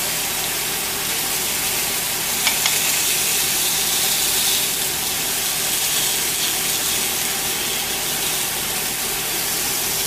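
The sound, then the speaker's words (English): Oiled chicken sizzles steadily on a hot grill, a dense, continuous crackling hiss that stays loud and even throughout, with a few brief sharper pops near the start and no talking. “Because what happens is the heat is increasing and the oil is going to start burning and it's just going to be a mess.”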